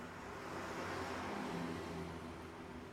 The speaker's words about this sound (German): Mehrere Autos fahren vorbei.